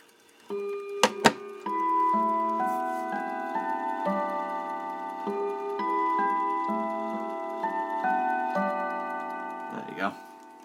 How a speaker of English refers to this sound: This is a decent enough clock. Chime isn't too bad on this.